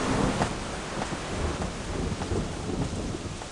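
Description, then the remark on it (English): Steady heavy rain hisses across the whole clip, with deep rolling rumbles of thunder underneath, loud with no voices. “Sounds like you're in a thunderstorm.”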